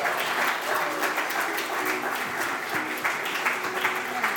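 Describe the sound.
A crowd claps steadily in a dense, continuous wash of applause that holds at an even level for several seconds, with faint voices mixed in beneath the clapping.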